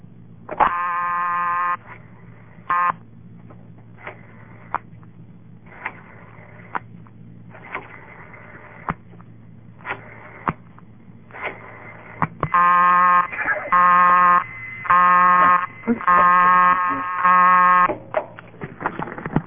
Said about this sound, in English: Notice that the busy signal came on after six digits. I assume that's because probably everything in this town is on 10-party lines, and they're just nice to you.